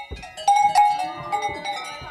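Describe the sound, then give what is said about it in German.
Several cowbells on grazing cows, their clappers just released, clang together, metallic tones overlapping in an irregular, jostling rhythm as the cows move about, with a bright sustained ring standing out among them. “Ja, diesmal tönt's. Die Glockenklöppen sind gelöst.”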